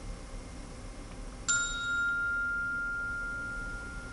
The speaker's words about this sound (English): I took my earphones. I inserted the earphone into the audio jack.